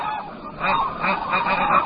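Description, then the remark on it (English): A flock of large birds honks and calls continuously, overlapping goose-like cries with no talking, steady and busy throughout, as the birds forage for leftover barley on farmers' fields. “The farmers are happy to have these sacred birds on their fields.”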